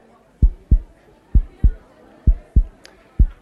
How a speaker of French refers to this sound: Alors, il a accepté de lire un extrait de Frappe-toi le cœur, ce nouveau roman paru chez Albin Michel, justement sur des battements de cœur.